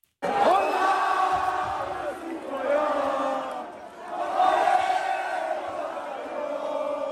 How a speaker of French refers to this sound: C'était dans Paris hier soir. Il y avait une ambiance de Coupe du Monde. Exactement, à la sortie d'un bar, des terrasses bondées, parfois au détriment des gestes barrières, il faut le dire. Des cris de joie, des chants et même des coups de klaxon.